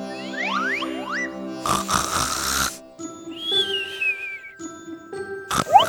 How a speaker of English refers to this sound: Look, …'s doing the snoring dog.